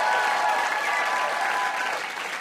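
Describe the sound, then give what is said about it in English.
A big round of audience applause on a trivia game show for a contestant, dense steady clapping from many hands that fills the space evenly and tapers slightly toward the end, with no voices heard. “We know that you knew all of the answers, so give Sharon a huge round of applause.”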